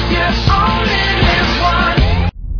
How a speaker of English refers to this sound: Whoa, a quake!